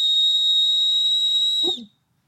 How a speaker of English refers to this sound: Should we do a whistle test now since we're talking about it? Oh, yeah. Yeah. Oh, that's terrible. Oh, my God.